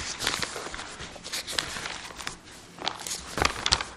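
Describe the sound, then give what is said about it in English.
Many Bible pages turning at once as listeners turn to Jeremiah chapter 29, a steady stream of soft papery rustles and flicks that swell and fade in irregular bursts, with a few sharper crinkles near the end. “I can hear those pages turning.”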